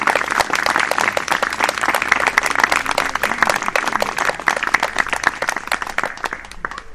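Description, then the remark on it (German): An audience breaks into steady applause for the people who helped with setup and technology, many hands clapping in a dense, even patter that holds strong for several seconds before starting to thin out at the end. “Und ich finde, die haben einen kräftigen Applaus verdient.”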